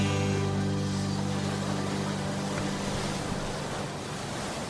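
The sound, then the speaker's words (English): A steady, loud wash of ocean surf breaking on the shore, continuous for several seconds, with a low droning hum underneath that fades partway through. No voices. “Like I'm laying on the beach.”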